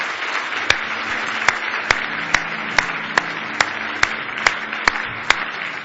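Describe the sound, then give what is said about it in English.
A church audience claps its hands in a dense, sustained burst of praise to the Lord. Sharper, louder claps cut through at a steady beat, roughly two per second, over the continuous patter. “Give him one more big hand clap of praise tonight if you love him.”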